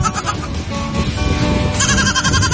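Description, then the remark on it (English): Young goats bleat in a continuous, overlapping chorus of high, wavering cries, loud throughout, with no talking. “And I watch him open his trunk and baby goats come out.”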